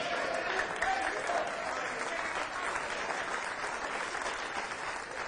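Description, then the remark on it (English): An audience claps together in a steady, dense wash of applause that holds at an even level for several seconds, with faint voices mixed in. “Some of y'all have got into this Canadian thing, an Ohio thing, clap at every word too.”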